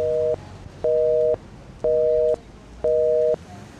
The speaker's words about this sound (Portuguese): Ei, porra, deu na caixa de mensagem. Pô, acho que a velha não tá atendendo o telefone, irmão.